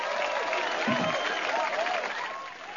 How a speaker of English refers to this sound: and she did a tremendous job, and she deserves a round of applause.